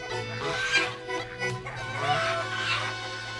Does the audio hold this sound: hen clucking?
yes